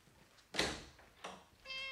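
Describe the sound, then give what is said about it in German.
Two short noisy bursts are followed by a single thin, high-pitched, steady meow from a young kitten sitting outside a door. The meow comes at the very end, and no one speaks. “Warum sollst du nicht auch zur Abwechslung einmal miauen?”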